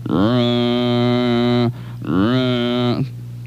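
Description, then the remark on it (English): Two long, low, droning fog horn blasts played on WROV radio during a foggy weather report, each lasting over a second with a brief gap between, loud and steady with a buzzy, harmonic-rich tone. “It's my fog horn.”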